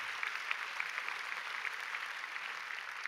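A crowd applauds God steadily for about three seconds, many hands clapping into a dense, even patter of sharp claps with no voices over it.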